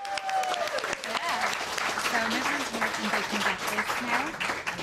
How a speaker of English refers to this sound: 6 out of 6, round of applause!